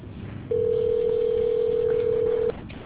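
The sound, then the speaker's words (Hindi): A phone call ringing on the line: one steady, low-pitched electronic tone held for about two seconds, clearly louder than the faint background hiss, with no talking. “Call करना start करूँगी।”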